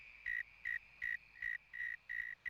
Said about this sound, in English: Most insects make sounds to find their mates. Most of the time, it's the male insect that makes a sound to attract the female. These cicadas are mating.